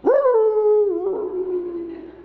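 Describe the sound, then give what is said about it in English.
A single long, mournful coonhound bay on the trail during a coon hunt, rising at the start and then held steady for a couple of seconds before trailing off, loud with no other voices. “Going coon hunting the coon dogs?”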